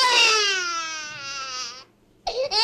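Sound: newborn baby crying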